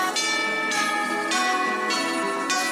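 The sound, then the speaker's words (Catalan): Tubular bells struck five times in a steady, even rhythm, each bright metallic chime ringing on and overlapping the next, loud with no voices. “Les campanes tubulars que donen nom a disc.”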